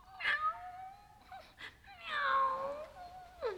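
A cat meows a few times: a short meow, then a longer, drawn-out wavering one, and a brief clipped cry at the end. No one speaks.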